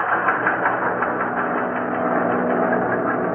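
Engines of giant air transports roar in a steady, unbroken drone as they fly off the mountains and down through the fog to land at Chongqing on December 22, 1941, a dense rumbling hum that stays loud and even throughout, with no voices.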